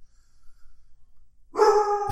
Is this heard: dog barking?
yes